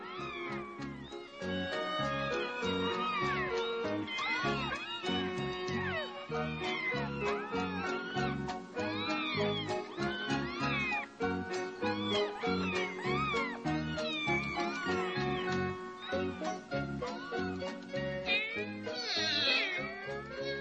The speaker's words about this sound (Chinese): 争吵的小猫。